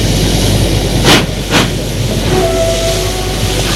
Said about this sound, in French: Enfin, le train s'en va doucement.